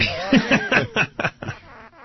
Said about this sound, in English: effects box sounds like fart.